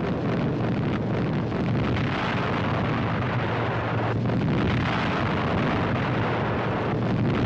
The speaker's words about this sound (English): Smoke bombs are used for guidance as thousands of tons of high explosives rain down, smashing Nazi transport and fortifications in preparation for the second front landings. Watch, a road junction is hit.